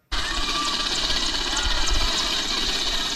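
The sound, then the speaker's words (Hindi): A helicopter roars steadily overhead above Naurangiya village in East Champaran district, which is surrounded by flood water, a dense, loud mechanical drone with a low rhythmic thudding underneath, continuous from start to finish with no break. “यह सैकड़ों उम्मीदों का हेलीकॉप्टर था जिसके आकाश में दिखते ही नौरंगिया गांव के लोग एक जगह जमा हो गए, इस आस में कि इससे खाने का पैकेट गिरेगा और जरूरी दवाइयां भी।”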